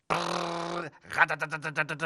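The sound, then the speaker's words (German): A voice imitates a printer: a steady buzzing hum held for nearly a second, then a quick run of about eight rhythmic, stuttering pulses like a print head moving back and forth. “Ein Drucker macht so.”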